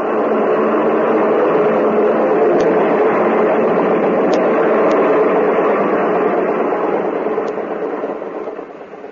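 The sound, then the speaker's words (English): A loud, steady roar of an airplane engine drones continuously and unbroken, then gradually eases off in the final second as the plane comes in to land. “I'm in the plane directly ahead of you. Follow me in. Here I come.”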